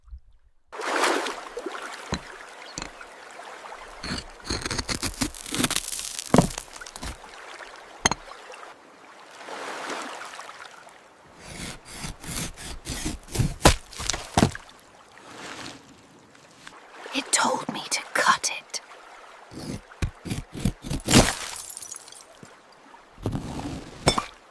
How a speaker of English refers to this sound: Yeti Boo munched a pine cone, and I felt that.